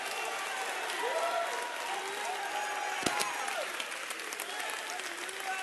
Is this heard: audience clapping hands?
yes